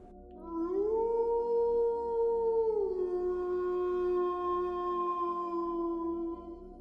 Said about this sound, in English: When another gnarled howl erupted from somewhere to their backs, each of them turned their heads with alarmed expressions etched across their faces.